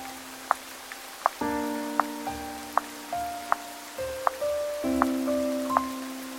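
Rain falling on a surface, heard as distinct, evenly spaced drops tapping, with soft sustained musical tones humming underneath and no voices.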